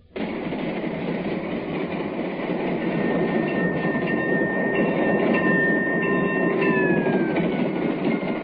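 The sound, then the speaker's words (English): A passenger train rolls steadily along the rails on a ride from New York back to Chicago, a loud continuous rumble with faint clattering and a thin squealing tone drifting over it, no voices present. “Well, that little dilemma was solved one day on a train ride from New York back to Chicago.”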